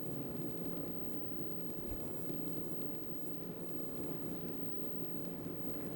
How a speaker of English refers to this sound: What do you call a very heavy rain that comes up very suddenly but doesn't last very long? Just a thunderstorm.